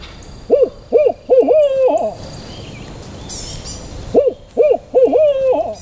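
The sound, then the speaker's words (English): A man standing in a Louisiana swamp forest imitates barred owl hoots to call in the birds: two sequences of rhythmic, wavering mid-pitched calls, each a few short hoots ending in a drawn-out, quavering note, separated by a quiet pause. “That's the sound of a barred owl”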